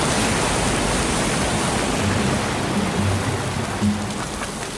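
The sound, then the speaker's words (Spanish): Hot water sprays hard from a nozzle in a steady, dense hiss, loud, with a rain-like patter running unbroken throughout and no voices. “Y volvimos a salir corriendo despavoridos por la lluvia de agua caliente que salía de esa boquilla del demonio.”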